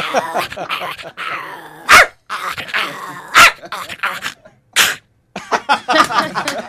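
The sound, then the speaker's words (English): A person imitates the family dog Duchess, a long-haired Chihuahua, mixing sharp yappy barks with raspy growls in an animated burst of dog noises, with several loud explosive yips standing out. “Long-haired Chihuahua.”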